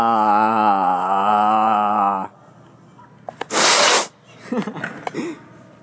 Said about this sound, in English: Big sniffle.